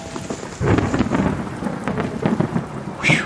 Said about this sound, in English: It is a dark and stormy night.